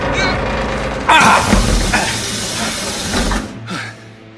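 Heavy doors of a building with broken windows are heaved open with a long, loud grinding scrape and a hissing rush of noise, with clanking jolts midway before the sound tapers off.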